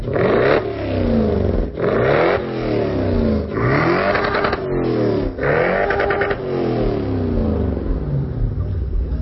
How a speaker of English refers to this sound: What is the joy of spinning for you? Is it you controlling the car? Is it getting you out of control? Controlling the car, spinning, burning tires, the sound of the car, yeah. You get addicted to it.